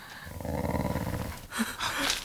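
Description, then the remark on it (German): Low, rumbling growls from a dog close by, a sustained throaty snarl for over a second followed by a couple of sharper, louder growling bursts. “Ihr Hunde. Sie sind ganz nah.”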